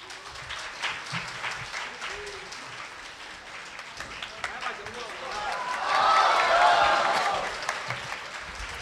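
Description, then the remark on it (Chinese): An audience claps throughout as six guests are invited onto a Chinese comic show, a dense patter of applause that swells louder toward the end, with some cheering and voices mixed in. “我们用最不热烈的掌声来邀请我们的六位嘉宾 来。”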